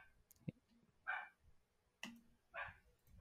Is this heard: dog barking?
yes